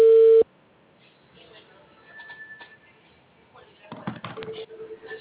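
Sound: telephone ringback tone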